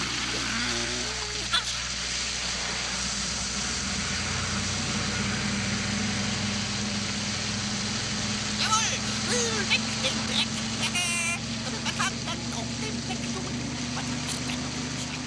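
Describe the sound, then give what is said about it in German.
A street-cleaning vehicle's blower roars steadily as it cleans a stretch of street, a dense rushing hiss over a low engine drone, with a couple of brief louder gusts and spatters partway through. “Gebläse.”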